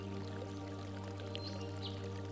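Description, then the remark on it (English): Soft, continuous trickle of water running into a pond, with faint tinkling splashes now and then over a steady low hum, quiet and close by. “Nearby, you hear a tinkling sound, like water running into a pond.”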